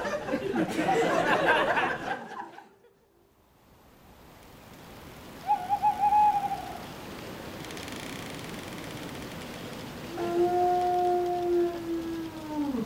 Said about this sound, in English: God, there's a wolf. There haven't been wolves in Wales for hundreds of years. It's most likely a lonely farmer.